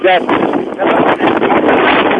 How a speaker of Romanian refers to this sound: Bate vântul la Constanța, să simte în microfonul telefonului.